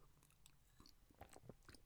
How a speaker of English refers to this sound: Actually, I'll have a sip of water first.